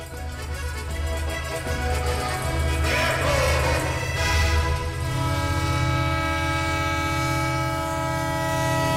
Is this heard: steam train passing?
yes